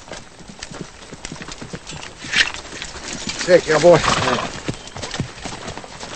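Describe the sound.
Steady clip-clop of horse hooves drawing closer as a rider approaches an unfinished fence, with a brief whinny partway through, while a man speaks a few short words.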